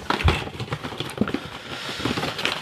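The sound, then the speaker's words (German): Rustling and crinkling as a cardboard box holding pods is opened, with a soft thump near the start followed by scattered crackles and scratchy handling noises, no voices. “Ja, und jetzt müssen wir da die Schachtel aufmachen, ne? Die dabei liegt. Da sind die Pots drin.”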